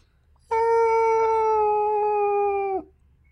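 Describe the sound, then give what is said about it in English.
A human voice imitates whale song with one long, sustained, mournful note that drifts slightly downward, loud for about two seconds, with nothing else around it. “And if you're on the coast, you probably speak dolphin? Yeah, or whale. Yeah. Song.”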